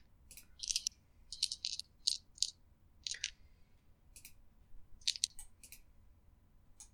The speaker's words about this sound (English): That'll be 2d plus your melee skill plus your strength or dexterity modifier. I'll be using dex. That's -1, which is cancelled out by the melee. So, just straight dice roll.